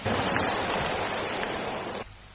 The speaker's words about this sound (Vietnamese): Bây giờ xin quý vị hãy dành tràng pháo tay để lắng nghe lý giải của Phật giáo thông qua Ni sư Huệ Liêm. Kính mời.